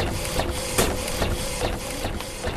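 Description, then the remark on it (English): A new t-shirt printer runs steadily, a dense mechanical whir and hiss with a faint steady tone, punctuated by regular soft clacks roughly every half second. No voices. “After a few years building credit, they were able to get a loan for this new t-shirt printer.”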